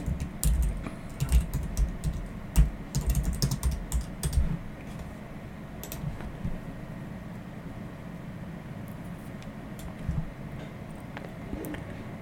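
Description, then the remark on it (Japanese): Bursts of rapid computer keyboard typing while searching online for song lyrics, clicky and percussive, cluster in the first few seconds, then thin to a quieter stretch with a few scattered taps and a low steady hum underneath. “これはですね、歌詞検索したら出ますかね。”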